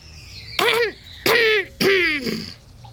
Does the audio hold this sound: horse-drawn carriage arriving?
no